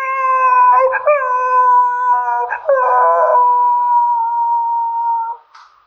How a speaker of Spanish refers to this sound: Y llevó su perrito a la casa, el cual no paraba de aullar.